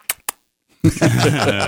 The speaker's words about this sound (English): And that noise with his lips, Carla. He wasn't clicking his fingers or anything like that.